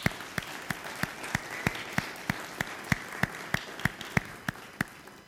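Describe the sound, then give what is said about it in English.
An audience applauds the children of the Sunday school being recognized and celebrated, with sharp, evenly spaced claps standing out in a quick regular rhythm over a soft wash of other clapping. No one speaks. “And so we just want to give all of them a big round of applause.”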